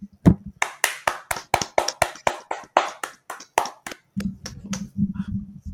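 A short burst of applause: about a dozen sharp, steady hand claps in quick succession, fading out into a low, muffled hum of voices at the end.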